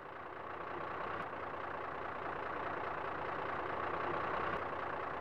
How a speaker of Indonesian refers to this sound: Pak, truknya sudah datang.